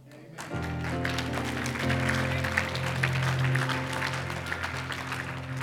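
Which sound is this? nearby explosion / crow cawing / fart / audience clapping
audience clapping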